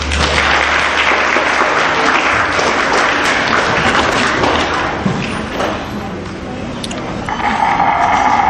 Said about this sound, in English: At the end of her presentation, she actually has a recorded round of applause, in case there wasn't one from the audience, I guess.